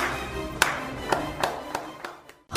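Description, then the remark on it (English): A slow clap: six sharp hand claps, widely spaced at first and gradually quickening, over a steady low background bed, ending in a brief silence. “Let's slow clap it out.”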